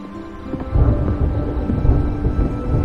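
A thunderstorm with low, rolling thunder that swells after a quiet start and keeps rumbling steadily, heavy, with a faint hiss of rain underneath and no voices.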